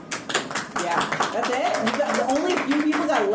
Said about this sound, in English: And those of you who have been at previous Balticons, when I've brought down lemon cakes, can I get a show of applause?